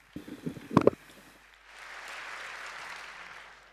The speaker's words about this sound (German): Also einen warmen Applaus bitte.